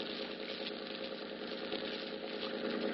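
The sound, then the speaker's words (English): A boat named the Dolphin idles as it pulls into Pier 40, its engine a steady, continuous droning rumble, holding an even moderate loudness throughout with no voices over it. “It's pulling into Pier 40 now.”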